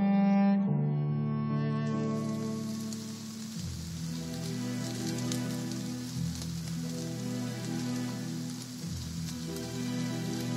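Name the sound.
rain falling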